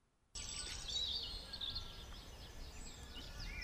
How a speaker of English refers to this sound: Every morning I look out of my window and think this is the right place to live because of all the chirping birds and atmosphere here on the island.